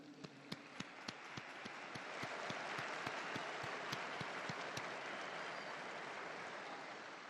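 A large crowd applauds the two newly beatified blesseds loudly, with sharp rhythmic clapping in unison standing out at first, then swelling into a dense, steady roar of applause that continues to the end.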